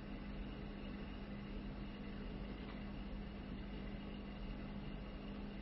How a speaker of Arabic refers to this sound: طائرات جتي قعدت في مكان حتى تستريح وتبدأ الحركة الثانية في صحراء طبس